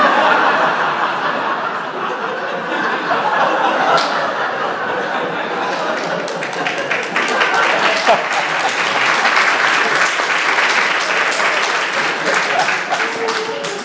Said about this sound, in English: Let's give them a round of applause. If any of you are uncomfortable applauding in worship, get over it.